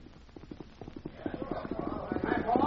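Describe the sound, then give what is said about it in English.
Horse hooves clip-clop in a quick, steady rhythm, growing louder over a few seconds as a man rides up on horseback to a hitch rack in town and dismounts. “Man and horse ride up, dismount.”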